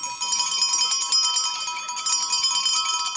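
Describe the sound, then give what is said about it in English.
Many bells ring together in a car park in Truro, Cornwall, to start the Olympics, among them a young child's cowbell and a hotel bell. They make a dense, continuous clatter, their bright metallic tones overlapping steadily throughout, loud, with no voices standing out. “We've got cyclists, we've got a young child ringing a cowbell, we've got a gentleman with one of those hotel bells that you find.”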